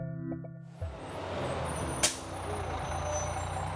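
A number 17 bus rumbles with a deep idling engine, then its air brakes let out one short, sharp hiss before the engine drones on. Faint electronic beeps sound at the start.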